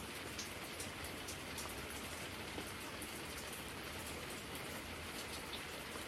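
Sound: heavy pouring rain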